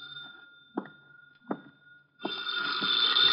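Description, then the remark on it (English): A telephone in an office starts ringing after a couple of soft knocks and a faint steady tone, then rings loud and continuous until the end, with no voices. “I sat down to wait for him, and the phone started ringing.”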